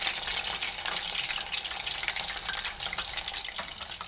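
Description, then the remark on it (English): Food sizzles steadily in hot oil, a dense crackling hiss with scattered sharp pops throughout, fairly loud, with no voices. “Foods will pop and sizzle, gurgle and whisper, and everything in between.”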